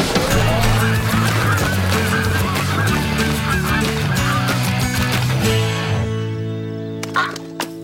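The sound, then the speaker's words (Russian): A dense chorus of flying geese honking, many overlapping calls from a large flock, loud and continuous before thinning into a few scattered honks at the end. “Гуси уже летят! Мы слышали!”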